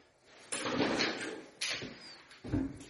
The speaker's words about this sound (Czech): Jak vidíte, tak tady louskám ořechy. A víte, jaký to jsou ořechy?